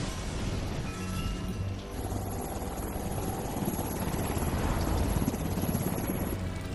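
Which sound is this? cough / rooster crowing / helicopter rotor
helicopter rotor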